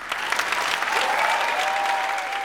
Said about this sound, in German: Ja, man hört schon an diesem Applaus, wie sehr das Publikum auf solche Aussagen gewartet hat.